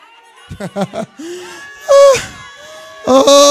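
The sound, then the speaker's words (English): Excited voices cry out in short bursts, then a crowd at a church service erupts into loud, overlapping shouts and screams of praise to God, swelling twice near the end. “It's going to require a scream, a shout, a yell, a holler.”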